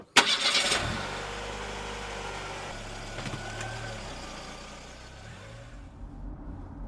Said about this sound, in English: Can you start the car, please?